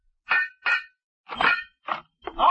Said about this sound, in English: What do you got, a new hobby, banging a pipe? And you don't give it the heat, so I'm gonna let you know.